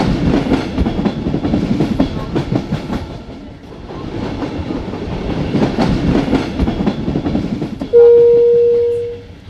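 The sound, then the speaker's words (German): A passenger train carrying pilgrims, now just outside Rome, rumbles steadily along the rails with rhythmic clattering from the wheels, then a loud, sustained horn blast sounds near the end and fades out. “Wir sind jetzt kurz vor den Toren Roms. Daher bitte ich euch, eure Sachen hier zusammenzupacken, die Waggons, die Abteile leer zu räumen”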